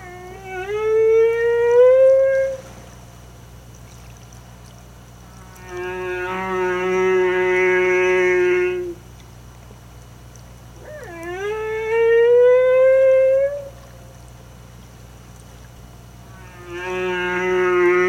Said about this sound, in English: I wouldn't be doing my humpback whales justice if I didn't say the humpback whale song, just because I think it's absolutely haunting.